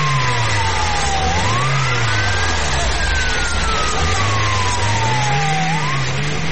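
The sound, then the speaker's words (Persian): A taxi's engine roars as it drives up. The loud, steady rumble rises and falls in pitch over several seconds, with no voices. “اوه این تاکسی از کجا پاید پاشو”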